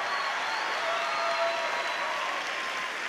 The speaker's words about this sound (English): Somebody clap your hands and take a praise break.